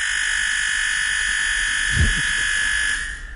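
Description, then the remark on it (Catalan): Ramon Gené's old salvaged electric doorbell, not a store-bought one, buzzes harshly and continuously without pause, a loud steady rasping drone with a brief thump near the middle, then cuts off near the end. “Doncs anem amb el timbre del Ramon Gené.”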